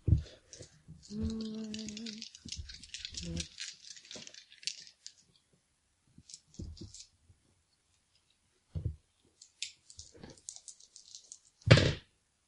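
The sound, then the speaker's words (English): Four dice are rolled and clatter and rattle across a hard surface, starting with a busy burst of clicks, then scattered small taps, and ending with a sharp, louder clack near the close. “How about I actually roll my driving dice?”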